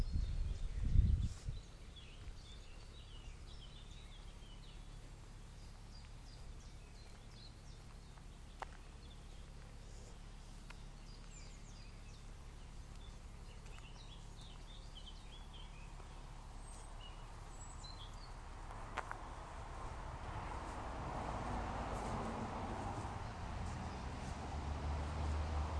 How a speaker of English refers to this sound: see if I can reproduce this rather nice effect of just being able to hear the birdsong from inside the van.